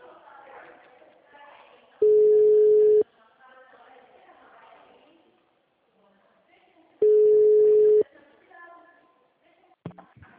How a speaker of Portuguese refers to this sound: Era o telefone